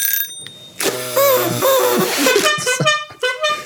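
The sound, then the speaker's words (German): A toy party horn (Tröte) blown feebly: a wavering, buzzy honk that sputters and breaks into a few short, uneven toots, with no one talking. “Die Tröte will nicht mehr so richtig.”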